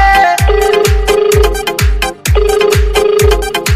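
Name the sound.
mobile phone ringing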